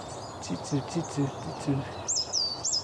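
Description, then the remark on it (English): A coal tit, the smallest of the tit species, calls in woodland with thin, high notes in a quick repeated series, then gives a few clear whistled phrases against a soft outdoor background with faint low murmuring underneath. “Yeah, it's a coal tip, the smallest of the tit species.”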